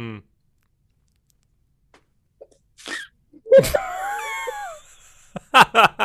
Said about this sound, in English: I used to get into so much trouble over this. Mm. Over chewing bubble gum and blowing bubbles.